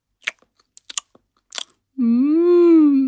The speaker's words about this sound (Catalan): Un dia, una rata va aconseguir sortir del niu i, deixant-se portar per l'olor del formatge, va arribar fins a la cuina. Va tenir tanta sort que fins i tot es va poder enfilar damunt la taula i rosegar-ne un bon tros.